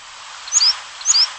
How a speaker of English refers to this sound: Pacific slope flycatcher.